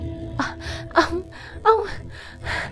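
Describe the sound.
A woman sobs and pants, drawing several sharp, ragged gasps for breath in an uneven rhythm, fairly loud, with shaky whimpering breaths between them.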